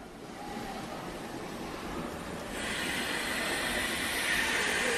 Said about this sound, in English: Oh, steam train noises, that's good.